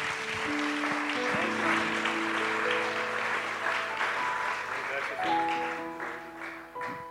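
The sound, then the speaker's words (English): An audience claps in praise to the Lord and Jesus Christ, a dense, steady wash of many hands sustained for several seconds over sustained organ or keyboard chords, with a few voices calling out. “Let's give a hand clap of praise to the Lord.”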